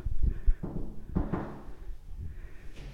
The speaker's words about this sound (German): Klopfen vorher, ne? Also klopfen.